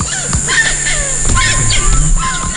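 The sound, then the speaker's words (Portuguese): Several birds sing at once in Iberá, a busy overlapping mix of chirps, whistles and rising calls that carries on steadily, with no one talking. “Parece que elas têm uma música para cada missão. As aves são parceiras que vários outros animais querem ter por perto.”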